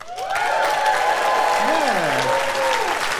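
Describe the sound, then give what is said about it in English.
A crowd bursts into loud, steady applause with whoops and cheers rising over the clapping, answering a question of who here is in a relationship, several voices sliding up and down in excited hollers throughout. “Anybody here, just by a round of applause and woos or whatever you want to do, who here is in a relationship?”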